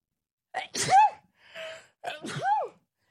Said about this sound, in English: Ooh, I'm going to sneeze, I think. Oh, God, it's coming.